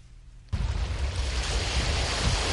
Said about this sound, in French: Ici, les vagues viennent accueillir les eaux usées du canal 6 qui traverse une zone industrielle à quelques encablures du port de Dakar. Le spectacle est désolant, des eaux usées, mais aussi des déchets solides comme des plastiques et des pneus.